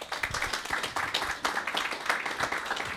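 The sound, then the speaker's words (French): A crowd applauds a female performer in the evening, many hands clapping in a dense, continuous patter at moderate loudness, with no voices standing out above it. “Bref, une artiste triple journée qu'on peut applaudir ce soir.”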